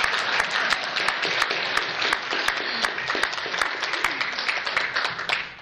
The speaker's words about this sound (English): A beautiful wife who's here with me tonight. You better clap for her.